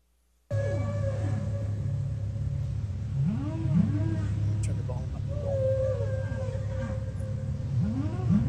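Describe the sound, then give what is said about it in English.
Music with a steady low drone beneath repeated swooping, rising and falling moans imitating whale song, several glides arriving in loose succession at a moderate, even volume. “Pretty good mimic there of a whale sound, yeah.”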